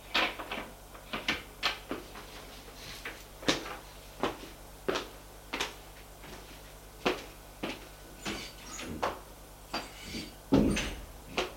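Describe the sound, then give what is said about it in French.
A bedroom door opens as a man leaves the room, amid a string of sharp clicks and wooden knocks, the handle and latch rattling repeatedly before a duller thump near the end. No voices. “Et sort de la chambre.”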